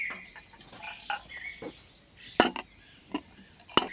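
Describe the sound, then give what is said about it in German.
Six plates are set down one by one, one at each place, on a garden table covered with a yellow flowered tablecloth, making irregular clinks and clacks, with two sharper knocks standing out, over a soft chirping outdoor background. “Auf jeden Platz kommt ein Teller.”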